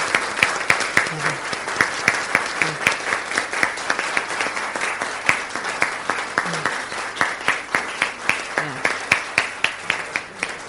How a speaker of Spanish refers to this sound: Bien, el proyecto queda aprobado por unanimidad. Si le parece, le damos un aplauso también, obviamente, a...